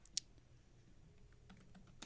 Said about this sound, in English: Nate is rage tweeting. I hear it on the keyboard. I hear the emotions clacking the again, keys.